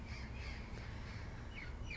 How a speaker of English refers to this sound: But sometimes I think there's like a crow with them because it sounds like crows.